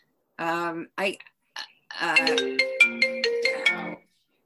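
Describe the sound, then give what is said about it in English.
A bright electronic ringtone melody plays clearly from a computer, with stepped tonal notes and short chiming pulses for a few seconds, preceded by brief voice-like sounds. “Sorry, I cannot turn that off on my computer, even though my phone's muted.”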